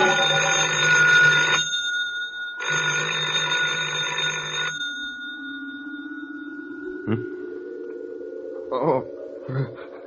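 telephone ringing

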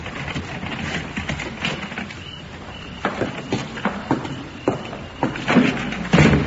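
key turning

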